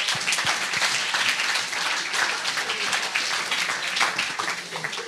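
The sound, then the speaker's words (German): Sustained applause from an audience, a dense crackle of many hands clapping at steady loudness for several seconds, with a faint voice or two mixed in. “Lass ihm mal einen Applaus ja. geben.”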